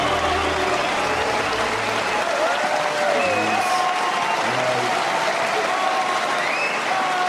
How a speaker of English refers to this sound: No, please, really. The longer you clap, the more insufferable Rob becomes.